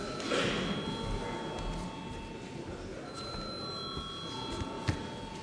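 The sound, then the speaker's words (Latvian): A steady electric voting bell rings continuously for several seconds in a parliament sitting, called for before a vote on a bill, a bright sustained tone with shimmering overtones, over a faint murmur of background noise. “Lūdzu zvanu.”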